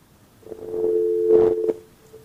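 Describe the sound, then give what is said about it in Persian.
A steady electronic phone-line tone hums at a single pitch for about a second after a caller's line is cut off, with faint rustling and a couple of soft bumps around it, then cuts off into quiet. “بله، خب تلفنشان قطع شد.”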